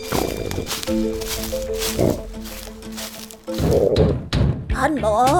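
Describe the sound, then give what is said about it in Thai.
Several dull knocks thud in an uneven rhythm against the door of the ants' nest, while a voice calls out to the ants to open the door, speaking over and between the knocks. “ท่านมดได้ยินข้าไหมเปิดประตูให้ข้าหน่อยสิ”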